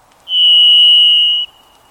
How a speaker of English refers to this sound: Listen carefully to hear the overtones that turn the single sound of a varied thrush into a delicate minor chord.